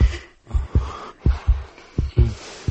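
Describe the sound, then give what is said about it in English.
A woman's muffled heartbeat thumps in low double beats, lub-dub pairs coming steadily and quickening slightly toward the end, with a soft breathy hiss underneath and no voices. “Just thinking about him now is making her heartbeat quicken.”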